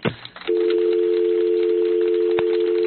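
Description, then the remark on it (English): A brief click as the phone is hung up, then a steady, continuous telephone dial tone hums at an even level for a few seconds, alone with no voices. “All right, hang up the phone, Wade.”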